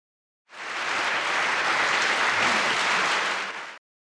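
A burst of steady applause from a small group in a living room, a dense wash of clapping that starts abruptly, holds at an even loud level for about three seconds, then cuts off. No one speaks.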